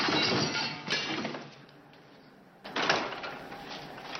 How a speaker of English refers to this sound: then pulls a wooden chair from the bar and smashes it open.